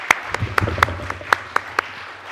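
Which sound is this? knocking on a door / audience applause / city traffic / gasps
audience applause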